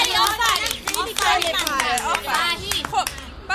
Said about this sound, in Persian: بچه تشویقش کنید.